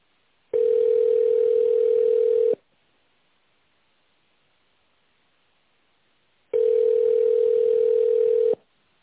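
A telephone ringback tone: two long, steady mid-pitched buzzing tones, each about two seconds, separated by a four-second silence. No one speaks.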